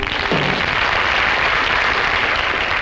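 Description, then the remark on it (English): Steady applause from a sizable show audience as Groucho Marx is introduced, a dense wash of many hands clapping at once, holding at an even level from start to finish with no voices standing out. “Don't applaud, just throw some money up on the stage.”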